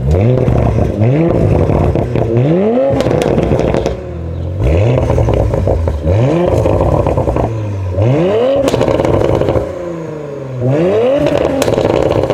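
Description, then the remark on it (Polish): A latest-generation Audi RS5 2.9 twin-turbo 450 hp engine revs hard through a catback exhaust with controllable rear silencers linked to the factory Audi Drive Select system and black ceramic oval tips, climbing and dropping in about five loud blips, with sharp crackles and pops as the throttle lifts between each rev. “Zamontowaliśmy tutaj układ wydechowy Catback, oczywiście ze sterowanymi tłumikami końcowymi, współpracującymi z fabrycznym systemem Audi Drive Select.”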